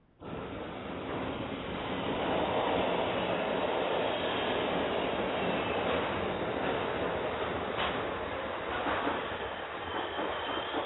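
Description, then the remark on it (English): A subway train rumbles steadily, a loud continuous roar of wheels and carriage noise with faint metallic squeals rising now and then, no voices. “Welcome to the subway.”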